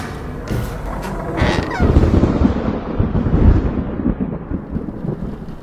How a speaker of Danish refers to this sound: Det regner stadig, da I vender tilbage til butikken, der ligger mørkt hen.